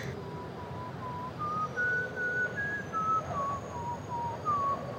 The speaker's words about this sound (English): Someone's whistling. I don't know. I can't see anyone.